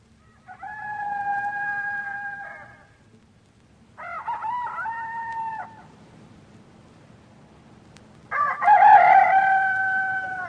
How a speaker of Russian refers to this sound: Кончилась ночь, вовсю разорались деревенские петухи, а Макар еще сидит за столом и твердит английские слова.